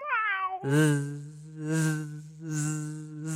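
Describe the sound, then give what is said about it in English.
Fat Cat, a cat that has just seen a bee, gives a short, high yelp-meow that slides downward, then gives way to a loud, steady buzzy drone that swells and fades in regular pulses. No one speaks. “I don't like bees, yelps Fat Cat.”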